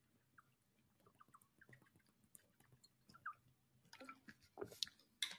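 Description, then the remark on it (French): Someone takes a quiet sip of a drink: soft wet mouth clicks and a faint slurp, then a brief swallow, over a low background hum. “Je bois une gorgée.”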